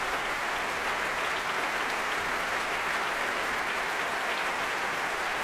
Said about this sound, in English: And back he comes to acknowledge the applause. The orchestra rises to its feet.